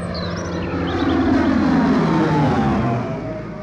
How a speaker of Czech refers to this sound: Slyšíte to houčení? Něco zase přijde. Nebe se ušetřete nás, ubohé. No to jsou letadla. Američani.